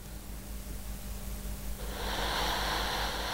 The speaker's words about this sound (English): He slipped onto his side. He's got his beanie pulled down over his head. Certainly looks more comfortable. He's heavy breathing. You can hear that.